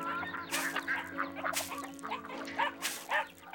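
animal, puppy yipping and whimpering

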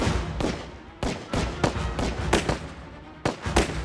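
sound effect, gunshots

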